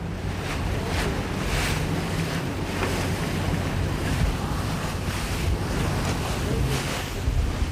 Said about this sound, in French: On prend le bateau, la chaloupe, comme l'appellent les Sénégalais